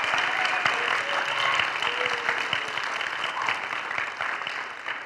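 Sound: audience clapping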